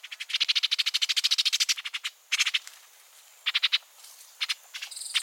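Rapid, dry chattering calls of an orchard oriole: one long rattling series followed by several shorter bursts, clear, with no voices.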